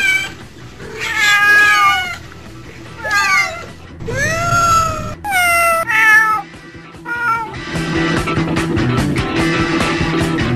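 Several cats meow and yowl loudly, their drawn-out wailing calls rising and falling in overlapping bursts before breaking into a rougher, noisier squabble at the end.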